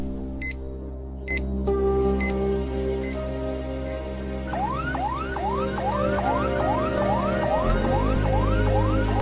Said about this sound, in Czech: Přátelé, pojďme si zahrát. Najdu vhodnou píseň a zahrajeme si, když jsme u toho zdravotního tématu, pojďme si zahrát sanitku.